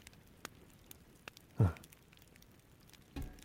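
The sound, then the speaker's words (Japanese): Soft, steady rain patters quietly in the background, with scattered drips tapping and a couple of heavier dull thuds; no one speaks. “では、この雨が止んだら出発しよう。”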